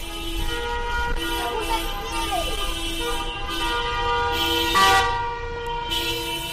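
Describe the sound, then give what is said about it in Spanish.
Many car horns from dozens of cars honk over one another in a sustained, overlapping chorus of steady tones during a car protest by Correos postal workers and UGT and Comisiones Obreras delegates through the centre of León, with traffic noise underneath and a louder blast near the end. “Lunes 24 de mayo, pasan 24 minutos de las 2 y vamos a hablar de esa manifestación de coches por el centro de León para pedir cambios en correos.”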